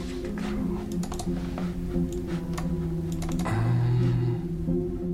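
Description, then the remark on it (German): Quick, irregular computer keyboard typing and sharp clicks tap away over a steady low electronic hum as someone clicks on a folder labeled test folder, with no voices present. “klickt irgendwann auf einen Ordner, der mit Testordner beschriftet ist.”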